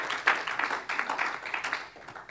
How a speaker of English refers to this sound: Somebody said, praise the Lord. Come on, let's give the Lord a hand clap of praise tonight. Thank God.